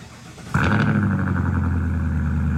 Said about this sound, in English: That, my friend, is a 22 Ford F-250 with a Godzilla 7.3, and it is on the ground.